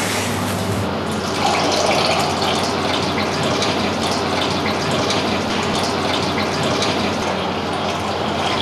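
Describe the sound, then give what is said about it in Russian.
Purified water pours in a steady, unbroken stream for several seconds onto yeast in a dough-mixing tub for making dough, a full rushing gush like filling a bowl, with no voices over it. “На эти дрожжи кладем мы воду. Вода у нас очищенная.”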